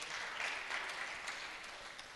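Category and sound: crowd, audience clapping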